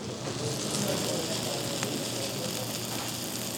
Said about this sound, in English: And it all comes out on the steaming hot platter. The whole thing smokes up the room and crackles as it comes towards the table.